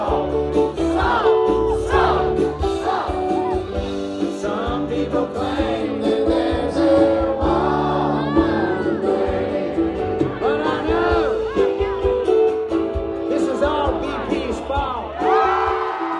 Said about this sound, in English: And when he played his signature anthem, everybody sang along in a giant group therapy session.